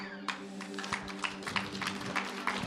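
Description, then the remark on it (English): An audience breaks into applause, a dense patter of many hands clapping that starts suddenly and keeps going steadily, with a low steady hum underneath and no clear talking. “Bet you've never applauded for a second butthole before.”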